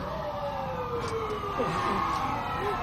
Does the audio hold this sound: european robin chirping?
no